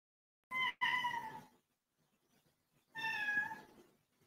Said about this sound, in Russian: То есть, о, вы слышите, да? Слышите этот мяу?